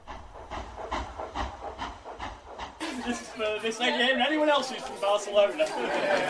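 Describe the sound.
Rhythmic rumbling train clatter opens, then a group of voices breaks into loud, enthusiastic singing together over the steady rolling noise of the carriage.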